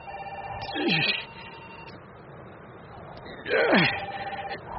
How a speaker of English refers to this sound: Only the phones. Suddenly ringing again after all these years. 50 years.